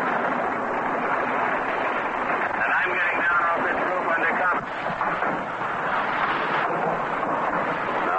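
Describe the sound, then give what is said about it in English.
Anti-aircraft guns fire from convoy warships out at sea in the next lane at German planes overhead, tracers shooting up over the sea: a dense, continuous rumble of distant gunfire and bursts filling the whole clip beneath a crackly, noisy background, with a muffled voice faintly present. “Fire is going up from warships out to sea from us in the next lane, and we could hear the harsh motor noise of the German plane or planes overhead.”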